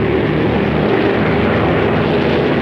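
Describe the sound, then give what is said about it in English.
A loud, steady propeller bomber roar with a deep throbbing engine drone fills the whole stretch, constant, as the bomber flies low overhead and skims past a thickly vegetated hilltop. No voices. “As Thatcher continues to watch the skies, the plane skims past a thickly vegetated hilltop.”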